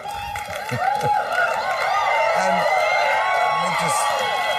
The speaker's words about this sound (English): let me just say thank you for really applauding and not Rand Pauling it.